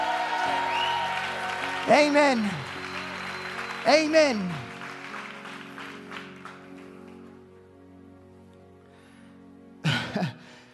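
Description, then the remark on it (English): A church audience claps steadily and shouts for the Lord; two loud, rising vocal exclamations stand out early, the clapping gradually fades, and another sharp shout bursts in near the end. “Can you give the Lord a clap and a shout?”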